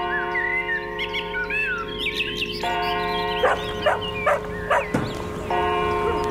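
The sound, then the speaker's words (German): Birds chirp at first, then a dog barks several times in an irregular burst of sharp barks at a small farmstead with dogs, sheep and donkeys above a village on the Ammersee, over a steady outdoor background with a faint ringing tone. “Oberhalb des Ortes ein kleines Gehöft. Zwei Hallo. Hunde, Schafe, Esel.”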